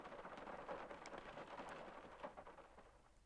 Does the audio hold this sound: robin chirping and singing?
no